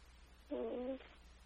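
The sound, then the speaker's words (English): A person on a phone call briefly imitates a cat's purr with a short, throaty voiced rumble lasting about half a second, standing alone against a quiet background. “I'm only in the purring state.”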